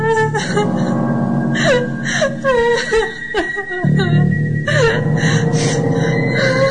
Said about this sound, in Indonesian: Ketika kami di perjalanan pulang, di tengah jalan aku mendengar seperti ada suara tangisan wanita.